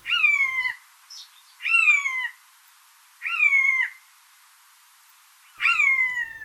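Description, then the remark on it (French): A bird mimics another animal with four drawn-out, downward-slurring mewing calls, evenly spaced about a second and a half apart, clear and fairly close with quiet between them and no talking. “Par ailleurs, c'est un excellent imitateur, capable d'imiter le cri d'autres animaux, des mammifères comme le chat domestique, ou des oiseaux comme la buse variable.”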